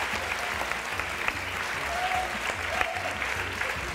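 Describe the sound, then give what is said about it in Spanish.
Steady, dense applause from the audience of the show Ilustres Ignorantes at its special edition celebrating five seasons on air, a continuous wash of many hands clapping at an even level for the whole stretch, with a few sharper claps standing out. “aplauso, vale.”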